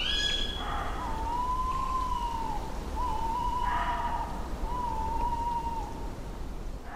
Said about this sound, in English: Those beautiful Tawny Owls were recorded by the sound engineer Brendan Rehill on a visit to Norfolk.